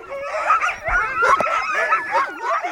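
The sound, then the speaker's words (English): A pack of sled dogs yips, howls and barks all at once, a dense overlapping chorus of excited high cries that keeps going without a break, loud, with no talking. “In the winter, if the sea ice is frozen enough, you can take a snowmobile or dog sled.”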